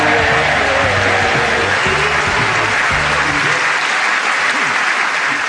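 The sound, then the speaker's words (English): A loud, steady burst of audience applause, dense clapping filling the whole clip, with some low musical tones underneath at the start that fade out partway through. “Oh, can I say I think you ruined that by clapping?”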